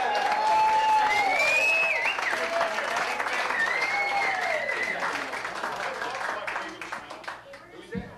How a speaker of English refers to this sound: Give them a nice round of hoot and holler and applause.